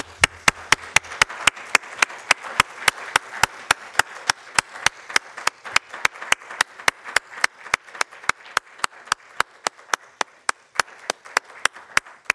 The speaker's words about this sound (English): I think she deserves a huge round of applause.